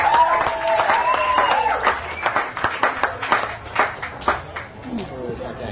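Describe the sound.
An audience applauds a singer from Sweden as he is introduced, recorded on a Panasonic Walkman tape recorder: dense crackling claps that thin toward the end into separate sharp claps, with voices calling out over the start.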